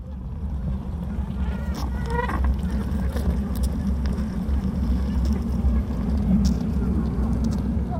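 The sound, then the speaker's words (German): A honeybee colony in an experimental hive box hums in a dense, steady low drone about 2 hours before the colony splits, as heard in a sound installation, with brief higher tonal squeaks and crackles flickering over the constant buzz. “Es gibt dann ja auch den Moment, den man auch hört in der Installation, die 2 Stunden, bevor sich das Bienenvolk teilt.”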